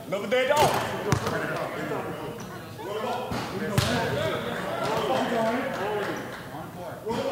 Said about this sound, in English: Anthony misses a shot, and then another, and then the next. 4 jump shots in a row that don't fall.